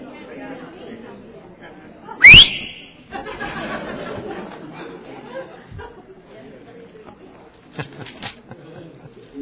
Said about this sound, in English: Whistle.